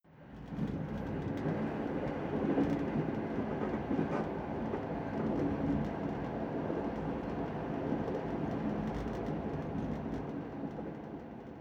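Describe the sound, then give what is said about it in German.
A train rolls steadily along the rails, a continuous loud rumble with faint rhythmic clatter for the whole stretch with no voices. “Sie müssen mit dem Zug fahren.”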